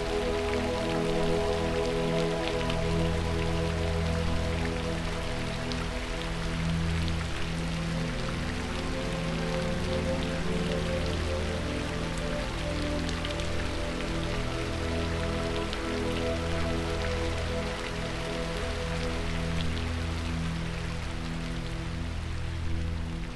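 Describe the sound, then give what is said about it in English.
Steady rain patters densely onto a hard surface, a continuous hiss of countless drops at an even loudness throughout, with a low sustained tonal hum running beneath it. “And then the rain stops.”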